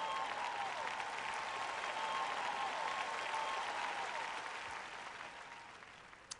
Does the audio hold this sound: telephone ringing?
no